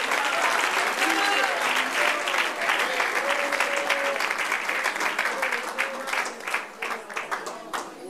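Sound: audience applauding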